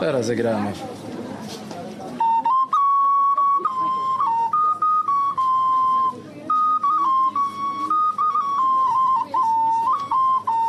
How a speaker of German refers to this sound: Das ist eine Pfeife. Wir haben traditionelle Spielzeuge und auch Pfeifen, die mit 4 Tönen spielen. Jetzt spiele ich.